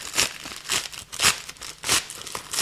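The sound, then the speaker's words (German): Crinkly plastic rustling and tearing in a steady rhythm of about five bursts, fairly loud, as a plastic bag is pulled and ripped open. No one speaks. “Okay, die hätte ich einfach nie aufbekommen. So, jetzt ist sie offen.”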